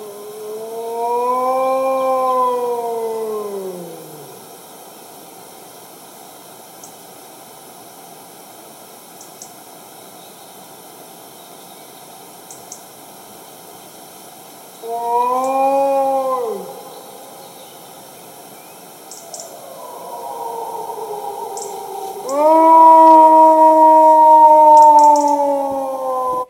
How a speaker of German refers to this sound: Doch hört selbst, anstatt Intro, eine Wolfsaufnahme aus einem nahen Wald meines Platzes zur Einstimmung.